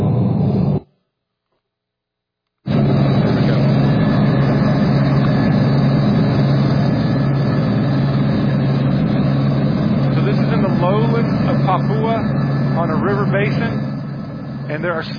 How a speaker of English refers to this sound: Here is a small clip I want to show you of landing in a village through helicopter.